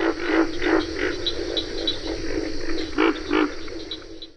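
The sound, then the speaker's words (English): A pig frog calling: a series of low, throaty grunts repeats at an uneven pace, each one a short rough croak, with two louder grunts near the end over a steady background hum. “So it's a little pig-like grunt.”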